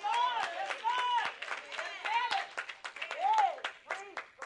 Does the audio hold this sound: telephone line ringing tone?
no